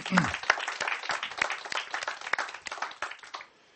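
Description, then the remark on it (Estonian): A crowd at a church worship service applauds steadily for those who led the worship, many hands clapping in a dense, sustained burst that stays fairly loud before tapering off at the end. “Teemme yksi suuri aplaus nendelle, kes sen juhtisivat meidän.”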